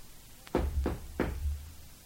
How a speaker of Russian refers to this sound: Вдруг кто-то постучал к нам в дверь.